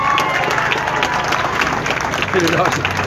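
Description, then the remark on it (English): A round of applause for the winners: dense, steady clapping from a crowd that holds at an even, loud level throughout, with scattered cheers and voices mixed into the noise. “round of applause for your winners, folks, once again.”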